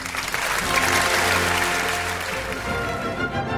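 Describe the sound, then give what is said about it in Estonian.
A crowd claps steadily in a dense, continuous wash of applause that holds strong for a few seconds before easing off slightly toward the end, opening an Eesti Kontsert programme on Kuku Raadio. “Aplaus!”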